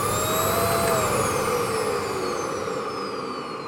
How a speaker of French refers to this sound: Passait à l'aspirateur.